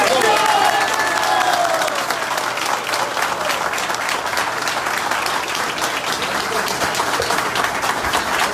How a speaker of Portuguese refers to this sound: Mais palmas. Vamos lá, pessoal. Mais palmas.